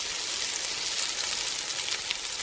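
Steady sizzling of food frying in a pan, a bright crackling hiss with tiny pops that holds at an even level for a couple of seconds, with no voices.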